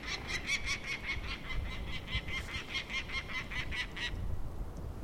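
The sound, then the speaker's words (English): A male peregrine falcon gives a rapid, harsh series of repeated cacking calls at a raven, steady and fairly loud for about four seconds, over a constant low rumble of wind. “That's a male yelling at the raven.”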